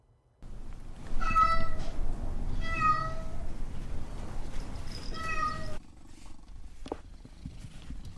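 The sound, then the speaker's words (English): Cats, residents of the Pretty Paw Lounge, meow three times in drawn-out, tonal calls spaced a second or two apart, fairly loud, over a steady low purring rumble. No one speaks. “I hope those meows and purrs provided some levity to your day.”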